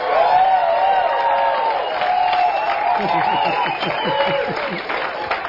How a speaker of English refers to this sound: Let's give one quick round of applause for the people who made it this far.